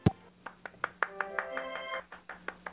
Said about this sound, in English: Wait a minute. Okay, the applause totally makes me smile.